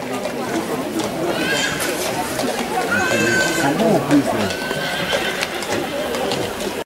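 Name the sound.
sheep bleating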